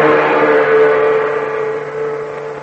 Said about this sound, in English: The big truck clatters and rumbles down the Burma Road, bound for a nearby river.